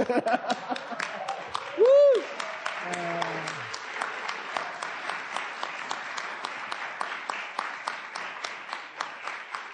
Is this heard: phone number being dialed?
no